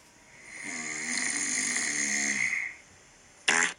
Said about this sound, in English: There's more snoring. Okay, there's more snoring.